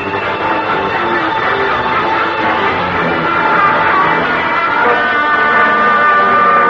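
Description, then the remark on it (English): A milk train to Le Havre approaches at night, its horn blaring in a long, steady, multi-toned blast over a dense rumble that swells slightly toward the end. No one speaks. “Oh, you hear? She's coming now.”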